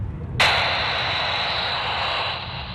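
Radio transmission noise on a radio frequency used to communicate with aircraft: a steady, bright static hiss cuts in abruptly and holds for a couple of seconds over a low rumbling background, with no voices.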